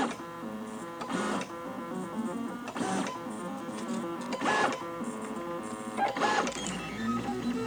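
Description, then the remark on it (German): A 3D printer printing circles, its stepper motors whining in tuned, shifting tones that swell in a steady repeating cycle every second or two, with no one talking. “Der druckt gerade Kreise.”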